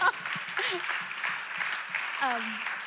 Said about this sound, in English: You guys can cheer.